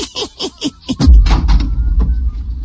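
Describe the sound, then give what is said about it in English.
A door to an adjoining room is unlatched with a quick run of metallic clicks and rattles, then swings open with a low, heavy rumble that fades. Fairly loud, with no voices. “He opened up the door to an adjoining room,”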